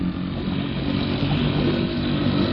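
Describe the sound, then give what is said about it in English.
A small motorboat engine runs steadily, a loud buzzing drone with a rough, even rattle that holds constant throughout, with no voices. “I'll give her the gun a little and then pull up the motor so we don't foul the propeller”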